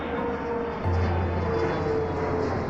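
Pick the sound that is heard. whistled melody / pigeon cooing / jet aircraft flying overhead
jet aircraft flying overhead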